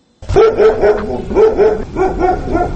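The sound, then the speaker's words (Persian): Several stray dogs bark in the streets and bazaars of the town of Khorog, in rapid, overlapping bursts, a steady rhythm of sharp barks with a few higher yips mixed in, loud with no talking. “ولی با این حال شمار سگان دایدو در کوچه و بازارهای شهر خروغ کم نشده است و ساکنان میگویند که در مبارزه با این سگان دایدو دست کوتاهی دارند.”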